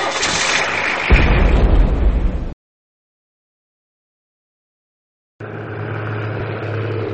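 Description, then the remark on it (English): A car engine cranks and roars to life with a loud low rumble, cuts off into silence, then returns as a steady, humming idle. No one speaks. “What's this? It's a car.”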